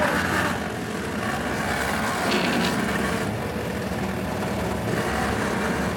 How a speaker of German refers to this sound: Der Fischer hängt das Seil an einen Flaschenzug und zieht den Hummerkorb langsam aus dem Wasser.